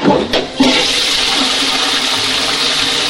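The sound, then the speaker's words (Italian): A toilet flushes, starting with a sharp click of the handle and then a loud, steady rush of water that keeps pouring without letting up. “Il cameriere con la mitragliatrice carica di polpette tirava lo sciacquone.”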